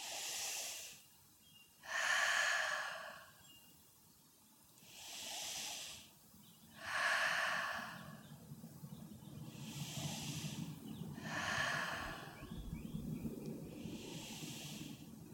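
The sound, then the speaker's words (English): Forceful, rhythmic breaths rush in and out, about seven sharp bursts at a steady pace of roughly two seconds apart, with no talking, during a breathing exercise done with the fingers in a cathedral position and the thumbs drawn up to the third eye. “And draw your thumbs up to your third eye. And do the same breathing.”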